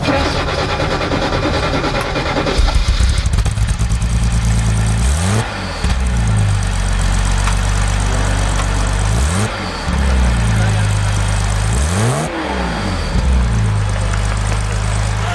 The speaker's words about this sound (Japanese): ちなみになんですけど、ちょっとエンジンの音聞かせていただくことができますか？